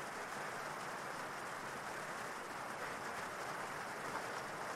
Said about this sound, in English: And as it continues to rain